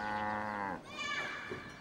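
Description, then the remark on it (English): Livestock kept inside Zhongdong Cave in southern China gives a loud, wavering bleat-like call lasting under a second, followed by a fainter, higher cry, with no one talking. “As well as the school, the cave houses 18 families, together with their livestock.”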